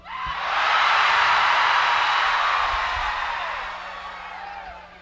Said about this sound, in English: So when you see that, you'll know to scream like you're being swallowed by a whale. Is that clear? All right, we'll give it a trial run. 1, 2, 3, Mr. Funk.